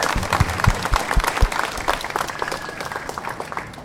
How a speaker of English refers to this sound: there are lots of good people in DNR. It's true. Yeah, let's clap for them.